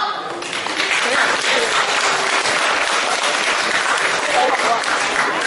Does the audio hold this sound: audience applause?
yes